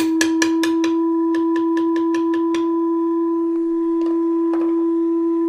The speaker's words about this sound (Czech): Součástí práce na varhanách pro Ostravskou katedrálu je i ladění píšťal.